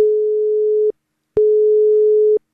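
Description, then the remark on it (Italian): A telephone line tone sounds alone: two long, steady, single-pitched beeps, each about a second, separated by a short pause, clear and fairly loud. “Andiamo subito al telefono su Radio Toscana”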